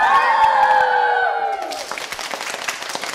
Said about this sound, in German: Im Foyer der Kirlacher Schillerschule wird kräftig gesungen. Die Nachricht vom Erfolg in München hat sich schnell herumgesprochen und für Jubel gesorgt.